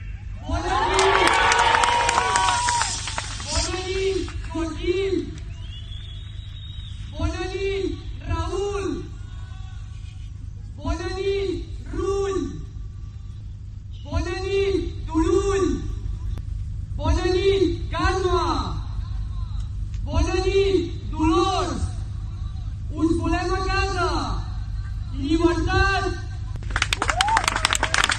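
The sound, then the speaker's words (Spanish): A large outdoor crowd outside a prison shouts goodnight in unison to each of the jailed Catalan independence leaders, calling out short rhythmic chants again and again at a steady pace over a constant noisy murmur of many voices, with Oriol Junqueras faintly answering from inside the prison. “Si estás muy atento, porque vamos a poner el sonido, puedes oír a Junqueras en la lejanía respondiendo a los gritos.”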